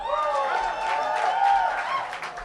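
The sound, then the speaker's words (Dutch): An audience applauds the band's guitarist in a steady, dense wash of clapping that lasts throughout, with some sustained voices or cheering tones rising over the noise. “Sietse van Essen, onze gitarist, applaus.”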